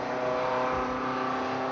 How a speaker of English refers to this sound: Okay, now. That truck, gotcha.